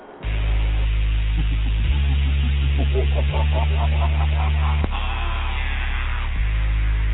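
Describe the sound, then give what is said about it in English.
A hip-hop track plays with a deep, booming bassline that shifts pitch every couple of seconds, while a wavering melodic line rises and falls above it, all sounding muffled and steady in volume. “We'll play your track for you real quick.”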